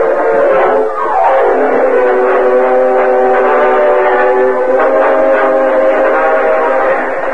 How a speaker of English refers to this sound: Meanwhile, a short distance from Modoc City, Cliff Gullison hurried through the empty passenger cars and joined Gopher in the engine cab of the speeding train.